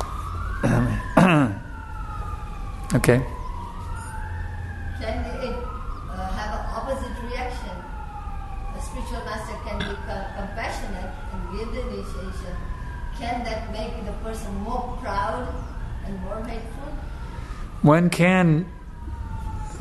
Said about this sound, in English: Wait for the sirens to go now. I can't hear you.